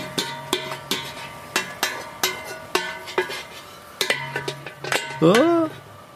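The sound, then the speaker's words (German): A metal pot lid nearly falls off a pot of solyanka cooking over a fire, clattering in a string of about a dozen sharp, ringing clanks at an uneven pace, followed by a short vocal exclamation at the end. “Es ist mir fast der Deckel runtergefallen.”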